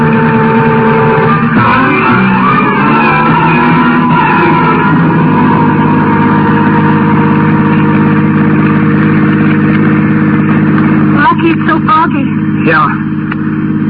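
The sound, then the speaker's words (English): A car engine drones steadily throughout, a low, continuous hum as the vehicle drives along, with voices speaking over it at moments. “Helped me get him into the luggage compartment of the car.”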